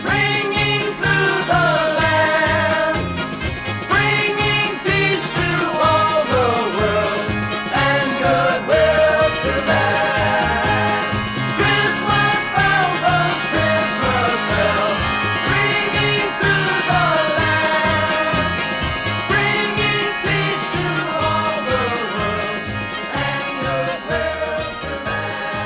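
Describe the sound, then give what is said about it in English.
Christmas bells jingle steadily through a full, upbeat festive song, ringing over a bouncy bass beat and bright melody at a constant, fairly loud level for the whole stretch. “Christmas bells, those Christmas bells.”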